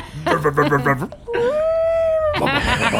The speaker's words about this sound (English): That's a beaut. Honestly, I'm like hanging out with beasts these days, and yeah, that sounds like a purr to me. Yeah, it just sounds like a crying dog. You know what? Let's not even listen to the radio. I could listen to this engine all day.